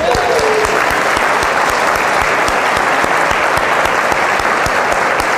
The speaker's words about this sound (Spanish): Así que os quiero dar las gracias, y nos vamos a dar las gracias cada uno. Los de este lado, un aplauso a los de aquel lado.